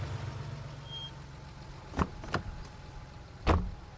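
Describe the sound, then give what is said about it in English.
A car idles with a low, steady engine rumble, then comes to rest as three sharp mechanical clunks follow as the driver parks in front of Huanan Seafood Market, no voices present. “The driver parked his car in front.”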